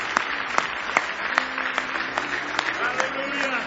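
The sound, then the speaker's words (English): An audience at a Saturday night church service applauds as a hand clap of praise to Jesus: dense overlapping hand claps with sharper claps landing in a steady beat roughly every half second, crowd voices mingling underneath throughout. “Give Jesus one more big hand clap of praise.”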